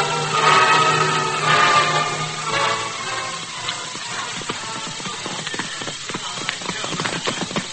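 Horses walk with steady clip-clopping hooves, a string of sharp irregular knocks that grow clearer after a louder, noisier opening stretch with a low hum underneath.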